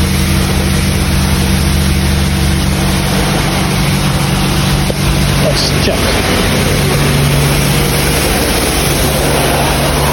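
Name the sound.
car engine running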